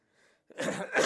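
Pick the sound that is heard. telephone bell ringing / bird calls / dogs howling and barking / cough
cough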